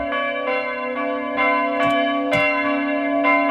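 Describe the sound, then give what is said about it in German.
Church bells ring steadily with a long, sustained hum, a second bell joining in, their strikes coming at a slow, even pace and layering into a rich, calm peal with no voices. “Wo klingen die Glocken so? Ah, eher ruhig.”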